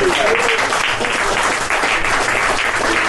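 An audience at a fringe comedy show applauds an audience member for translating, a dense, loud wash of many hands clapping that holds at an even level throughout, with no voices standing out.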